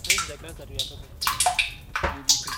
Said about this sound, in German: Wasser fällt in großen Tropfen in einen schwarzen Plastiktank. Es kommt aus einem Bündel von 10 armdicken Plastikrohren. Das eine Ende der geknickten Rohre steckt im staubigen Boden. Aus dem anderen quillt ein bisschen Dampf.